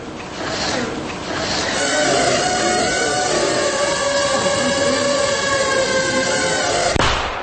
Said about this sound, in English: It finds a mannequin. Hits it in the forehead. That little bang is enough to penetrate the skull and destroy the contents. Again, with a shaped explosive.